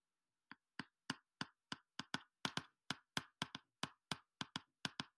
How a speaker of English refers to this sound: we got to give a round of applause to this young queen.